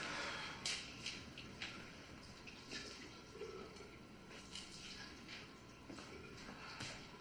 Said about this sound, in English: Place some water in there.